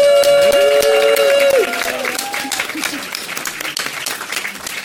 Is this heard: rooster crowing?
no